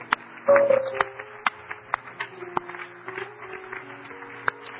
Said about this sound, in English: Are you glad you've been baptized in Jesus' name? Why don't we give that Lord a hand clap?